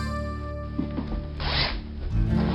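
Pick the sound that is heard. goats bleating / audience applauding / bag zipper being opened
bag zipper being opened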